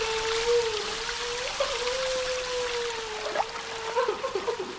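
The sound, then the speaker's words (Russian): Water pours and splashes in a steady, continuous rush from overflowing washbasins with all taps open onto the floor of a girls' toilet. A thin sustained tonal whine hovers over the noise, with small bubbling accents near the end. No one speaks. “Все краны открыты. Из переполненных раковин на пол льется вода.”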